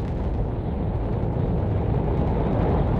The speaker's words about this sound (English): Ignition sequence start. Engines on. 5, 4, 3, 2, 1. All engines running. Launch commit. Liftoff. We have liftoff at 9:34 a.m. Eastern Daylight Time.